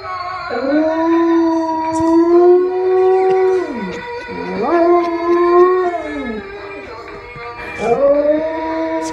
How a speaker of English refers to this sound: found out that his dog will sing along with the toy. That's a big dog, right? Yeah, it's a pit mix.